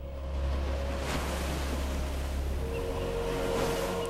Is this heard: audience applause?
no